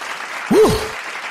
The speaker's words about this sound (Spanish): Aplauso para todos ustedes y será hasta la próxima.